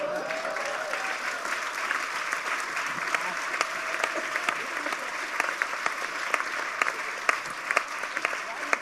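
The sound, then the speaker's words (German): Steady, dense applause from an audience, a continuous wash of many hands clapping with scattered sharper claps standing out, holding at an even level throughout. “Von daher, fetter Applaus für die Beatrice von Storch-Torte, aber auch fetter Applaus, dass er jetzt selber eine Torte gekriegt hat, weil er den Waffenhändler hat ziehen lassen.”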